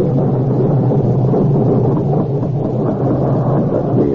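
nature, thunderstorm

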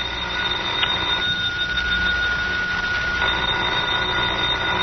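household object, telephone ringing

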